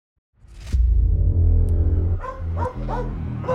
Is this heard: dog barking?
yes